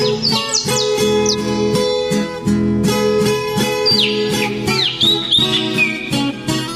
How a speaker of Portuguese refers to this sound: E ouvir mais alto o canto dos passarinhos.